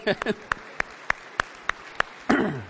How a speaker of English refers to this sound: We need to give moms a hand clap.